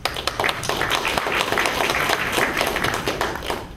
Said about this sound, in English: It's a real pleasure. So I'd like to give them a bit of applause real quick.